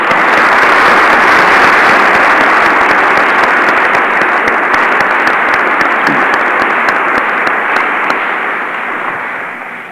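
Sustained audience applause at a campus chapel gathering, a dense wash of many hands clapping at steady loudness that tapers off slightly toward the end, with no voices over it.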